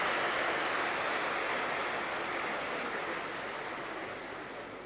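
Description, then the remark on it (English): A group of teachers clapping together, a dense, continuous wash of applause with no separate claps standing out, fairly quiet and slowly fading over about five seconds, with no voices. “They're clapping again.”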